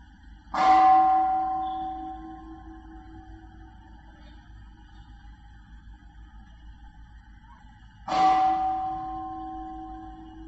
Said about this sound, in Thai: สังเกตไหมเวลาเสียงได้ยินเสียงระฆังนะจิตมันฉกไปที่ระฆังรู้สึกไหมเนี่ยพอเสียงกระทบหูนะจิตก็โดดใส่เลย